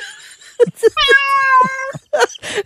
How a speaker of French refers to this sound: Il y a un chat qui rentre.